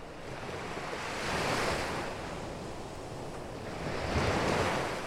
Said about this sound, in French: La mélodie des vagues a quelque chose d'apaisant. Cette même sensation que vous éprouviez enfant, bercé par les bras de votre mère.